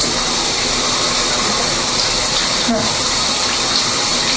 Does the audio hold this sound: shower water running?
yes